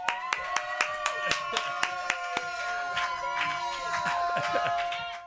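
Hands clap in a quick, fairly even rhythm in a radio control room on The Graham Norton Radio Show, Virgin Radio, sharp claps ringing out over a sustained, bright musical tone that hums underneath throughout. No clear cheering stands out.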